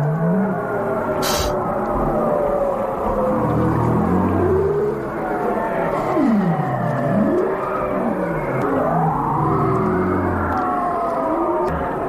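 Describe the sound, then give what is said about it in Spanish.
A male whale's sweeping spiral call, emitted as it descends in circles to surround the schools of fish it will catch, with long tonal moans gliding up and down in looping curves, layered over a dense underwater chorus of other whale voices and a steady background hiss. “Una espiral sonora. Esto lo emite un macho cuando va bajando haciendo un círculo, espirales, para rodear a los bancos de pescado que va a atrapar.”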